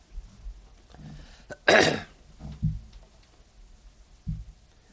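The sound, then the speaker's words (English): A sharp, harsh cough bursts out near the middle, surrounded by a few softer throat-clearing grunts spread across the few seconds, with no talking. “Please excuse all my coughing today.”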